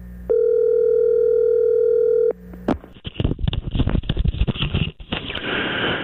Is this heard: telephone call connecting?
yes